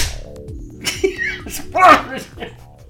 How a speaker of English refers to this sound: I'm gonna do my big clap and you're gonna like it a lot.